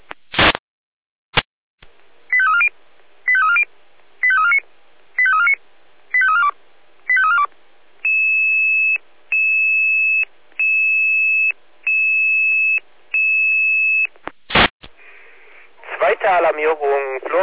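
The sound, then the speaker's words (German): Fire brigade dispatch alerting tones over a radio, a second alert for a fire call (B2) from a triggered home smoke detector at Schondorfer Straße 7 at 16:33: six quick warbling chirps, then five long, steady, high-pitched beeps in an even rhythm, followed by a voice starting to speak. “Dispatcher hier mit Alarmierung.”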